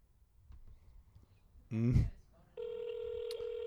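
A phone call being placed: a short burst of dialing sounds, then a steady, buzzing ring tone that holds on through the end, fairly loud.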